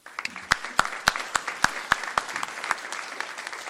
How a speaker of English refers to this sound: I think he deserves also an applause.